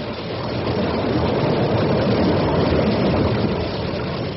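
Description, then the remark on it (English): A small boat engine drones steadily on the water, a constant rumble with a rough, churning texture and no breaks, no voices present. “Stop the engine.”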